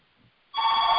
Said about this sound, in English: Oh, sorry that my house phone is ringing. Probably my mom or something.